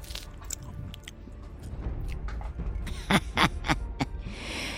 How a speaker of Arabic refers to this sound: ثم عاد بوليمة فيها 40 حمامة مشوية، فوضعها أمام دليلة، فأخذت قطعة من حمامة ومضغتها.